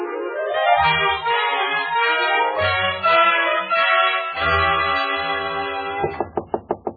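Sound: knock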